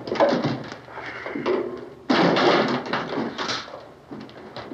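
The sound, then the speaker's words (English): A couple of chairs are dragged together, scraping and bumping across a hard floor, a rough, continuous grinding with a few knocking thuds, growing suddenly louder midway as another chair is hauled over. “Drag a couple of those chairs together.”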